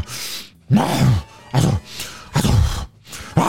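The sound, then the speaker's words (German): A voice imitates angry snorting and grumbling in four short bursts separated by brief pauses: low, rough growls with breathy, noisy edges, loud and alone without any speech. “Können Sie mal kurz wütend schnauben oder ein bisschen brummeln oder sowas?”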